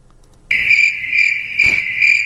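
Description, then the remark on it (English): A crickets sound effect: crickets chirp in a steady, high, continuous trill that starts abruptly and stays loud, with a brief low thump partway through and no voices. “Do you have a crickets sound effect in there?”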